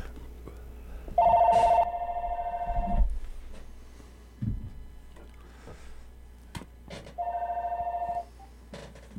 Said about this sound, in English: Oh, there's a phone call. Ah, we got a phone call. Probably hang on while I punch buttons.